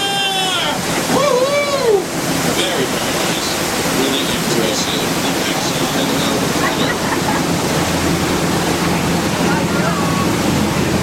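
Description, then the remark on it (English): A waterfall roars steadily and loudly, a dense, continuous rush of falling water, with a few brief whistling tones rising over it near the start. “Get your cameras ready here, something you don't see every day. It's the backside of water.”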